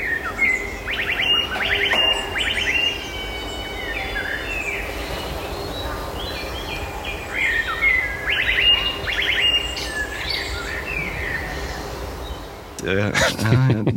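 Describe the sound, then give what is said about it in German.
A songbird, a blackbird or song thrush in Münster, Germany, sings outdoors, repeating short whistled phrases that mimic an electronic e-scooter warning tone, over a steady wash of background noise, with a louder burst near the end. “Wir haben in Münster zum Beispiel zwei Vögel, einmal eine Amsel tatsächlich und einmal eine Singdrossel, die dieses Warngeräusch von den E-Scootern nachmachen.”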